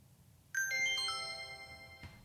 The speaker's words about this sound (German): Also das Klingen hören wir diesmal nicht, aber der Ton. Doch, das Klingen müsste jetzt eigentlich kommen.